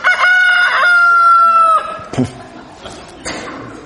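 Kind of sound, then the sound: bird, rooster crowing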